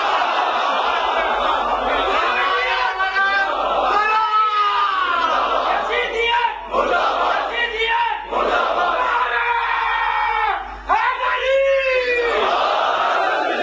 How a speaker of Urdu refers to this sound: دیکھو یہاں سے مرد آباد کے نعرے آ رہے ہیں